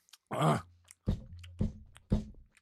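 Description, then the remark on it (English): Wet mouth sounds of someone chewing food, coming in four bursts about half a second apart, with low muffled throaty hums mixed in and no talking. “I'm still chewing.”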